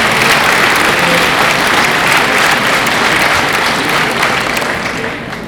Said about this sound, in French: Durant ces derniers mois, nous sommes heureux d'avoir accueilli un nouveau fromager, de nouveaux pâtissiers, des traiteurs au sein de la commune. Et je pense qu'on peut les applaudir parce que nous sommes en train d'être dans une aventure.